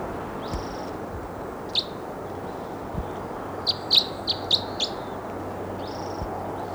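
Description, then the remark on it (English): A bird perched at the top of a tall lodgepole snag gives a series of high, sharp chirps in short bursts, with a quick cluster of four or five notes midway, over a steady low rumble of background noise. “Some pointed at the bird, pushing the top of that same tall lodgepole snag.”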